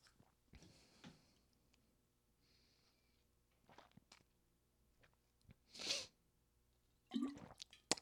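Someone drinks tap water from a refilled Voss glass bottle: soft handling clicks, wet sips and gulps, with a few louder bursts of bottle noise and swallowing between quiet pauses. No talking.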